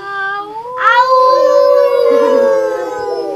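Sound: wolf howling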